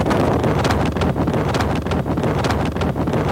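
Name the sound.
wind noise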